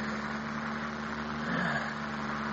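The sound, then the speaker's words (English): A steady aeroplane engine drone hums on without a break, a low tonal rumble beneath a broad, even wash of noise that swells slightly midway through. “It's an aeroplane.”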